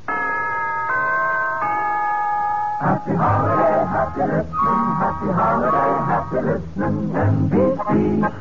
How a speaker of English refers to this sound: Now, here's a holiday wish from the NBC Chimes.